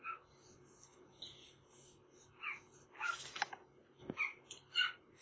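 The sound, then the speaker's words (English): A small dog gives a series of short, high-pitched yips at uneven intervals, fairly faint, with a few soft snuffly sounds between them. “What is that dog yipping now?”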